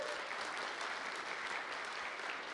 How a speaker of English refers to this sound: Yeah, go ahead and give him applause as he's coming up here.